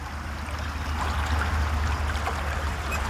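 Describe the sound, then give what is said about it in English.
Water of Loch Ness laps and splashes steadily against a stony shore, a continuous moist wash of small ripples with no voices present. “the healing power of Loch Ness. Wild water everywhere.”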